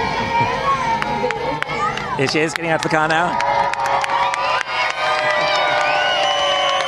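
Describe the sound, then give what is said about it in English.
A large crowd gathered outside the Civic Centre in Mansfield cheers and shouts for Rebecca Adlington before she goes into the Civic Centre. High whoops and excited voices swell throughout while a man speaks over the steady roar of the gathering. “Huge shouts from the crowd now before she goes into the Civic Centre.”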